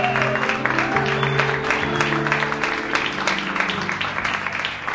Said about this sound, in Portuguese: Senhor Guto, vamos receber ele com a salva de palmas.